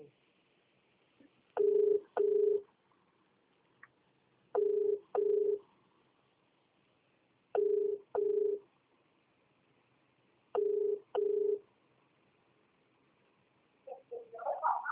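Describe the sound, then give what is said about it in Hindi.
An outgoing phone call, made to ask the freight rate for billets from Raigarh, rings over a speakerphone: four double-pulse ringback tones repeat steadily every few seconds, clear and moderately loud, with a brief noise as the call connects at the end. “तो रायगढ़ से, रायगढ़ से बिलेट का भाड़ा पता कर देता हूँ, एक सेकंड होल्ड करो ना, स्पीकर फोन पे है आप, और आप स्पीकर फोन पे सुनेंगे।”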